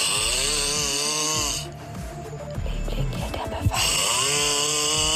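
A man snores loudly and harshly, a rough rattling inhale that fades into a brief pause with softer breathing, then the loud grating snore resumes.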